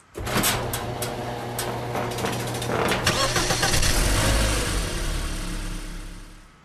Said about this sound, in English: Where'd you get that engine recording from? I've got to ask. From a random website. Cool. It sounds like a very small displacement motor. I was going to guess Ford Aspire.